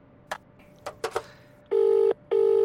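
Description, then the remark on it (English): A few brief clicks and knocks, then a telephone rings twice with a steady electronic warble, each ring lasting about half a second. The rings are loud, with no talking. “Sir, you have a call with the Seattle liaison.”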